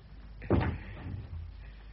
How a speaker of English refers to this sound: Now, shut the door and lock it.